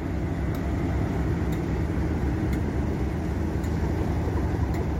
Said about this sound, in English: This train had to go all the way down to the buffer because it didn't fit in the platform.